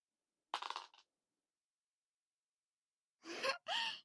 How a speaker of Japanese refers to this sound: はい、サイコロ振って。